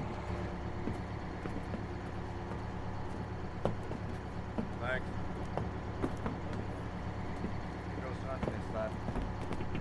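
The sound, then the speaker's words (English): A bus pulls up with its heavy engine rumbling low and steady. A short squeal rises midway, with faint clatters and muffled background voices. “She turns around as a bus pulls up.”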